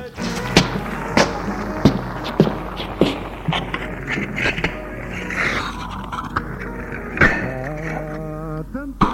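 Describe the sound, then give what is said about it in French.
Several sharp knocks and clanks come at irregular intervals, with scraping and rattling in between, as lids are lifted off saucepans of chicken on a kitchen stove at home, ending in a brief ringing tone. “Va à la cuisinière pour ouvrir les casseroles.”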